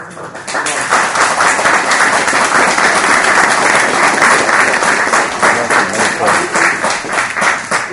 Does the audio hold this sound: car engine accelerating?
no